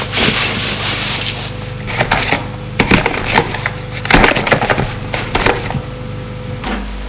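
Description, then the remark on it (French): Rustling and wooden scraping, with a few sharp knocks and shuffles as a woman puts her bag into a chest of drawers, over a steady low hum with no voices. “Ils entendent qu'elle enlève son chapeau, ses gants et met son sac dans la commode.”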